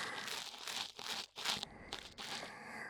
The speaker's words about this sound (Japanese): 耳かきでお兄さんがこんなに気持ちよくなってくれてる。嬉しいしドキドキしちゃいます。